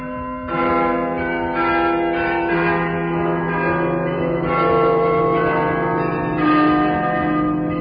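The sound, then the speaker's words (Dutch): The carillon of Mechelen plays variations on 'Ik zag Cecilia komen', a melodic passage of overlapping bell tones, rich with ringing harmonics, with new phrases striking in every couple of seconds at a steady, fairly loud level; no voices. “Klokkenspiel, dat wordt dan van, even kijken hoor, die naam komt me niet zodanig bekend voor.”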